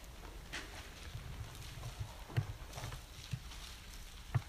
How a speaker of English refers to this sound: Let's turn there together. All those pages start rustling. Some beautiful thing.